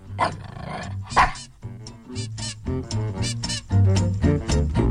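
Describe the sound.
A person imitates a dog with a run of loud, rough barks, growls and yips in uneven bursts, the voiced woofs landing in a choppy, excited rhythm.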